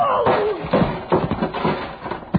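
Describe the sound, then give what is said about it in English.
A heavy steel pulley block, thrown with full force, slams into a man's body with a series of dull thuds and thwacks, a brief scuffle of impacts amid a rising, sweeping tone and low murmur. “He slammed the block at me with everything he had.”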